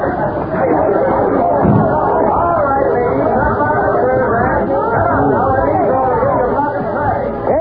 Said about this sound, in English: something must have happened. Look at that crowd. I'd get out and see what it's all about.